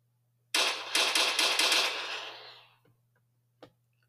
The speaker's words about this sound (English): As they sit on the porch, jonesing on each other and laughing at Shaquem, who is still next door, begging Carmen to talk to him, a 1964 black Cutlass skirts down the street, and gunshots come out of the car.